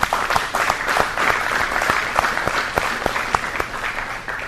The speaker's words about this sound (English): And of course, I want to recognize the REG staff that have made this plant get back on its feet. The folks here from REG Albert Lee and REG Ames. Let's have a round of applause for them.